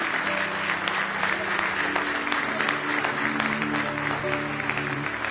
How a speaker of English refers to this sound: Somebody say praise the Lord. Now give the Lord one more hand clap of praise.